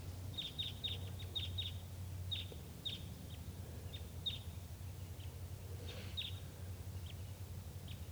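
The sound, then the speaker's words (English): At 9:22 a.m., wild birds, sounding like type 2, call with short, high chirps, a quick cluster at first and then scattered single notes, fairly faint over a steady low rumble. “At 9:22 a.m., wild birds coming in. Sounds like type 2.”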